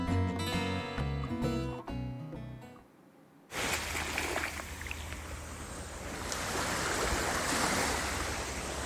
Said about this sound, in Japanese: 今回は波の音を聞きながら…のおしゃべりにお付き合いいただけましたら嬉しいです